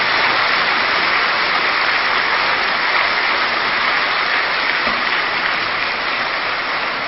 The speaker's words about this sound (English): Yes, you can clap loudly.